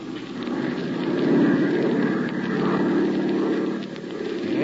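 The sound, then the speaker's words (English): A propeller airplane engine drones steadily in flight, about 100 miles from the border of Chile, a continuous low, buzzing roar with a throbbing undertone that swells slightly midway and holds without any break. “Well, that should be easy enough to spot even from this height.”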